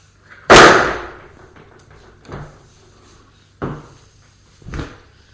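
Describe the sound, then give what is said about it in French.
A suitcase thrown to the floor by a man hits with one loud, sharp crash that rings off briefly, followed by three softer thumps and knocks spaced a second or so apart. No one speaks. “Furieux, il jette la valise à terre.”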